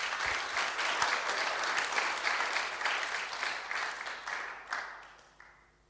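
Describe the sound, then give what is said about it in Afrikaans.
A church audience claps their hands for the Lord in sustained, dense applause that stays loud for about five seconds, then thins out and fades away. “So ek wil so nie, ek ons geef net vir die Here hande klap daarvoor.”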